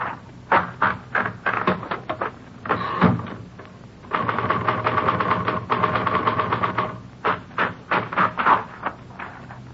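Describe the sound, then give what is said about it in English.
Rapid, sharp mechanical clacks of typing on a manual typewriter, loud, with bursts of keystrokes, a dense flurry in the middle, and brief pauses between runs, as the typewriter is tested against a forged letter in a police forgery division. No voices. “No, this isn't the typewriter we're looking for.”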